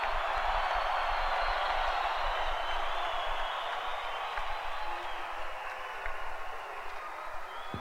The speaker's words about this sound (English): One more time, big round of applause for …, everybody.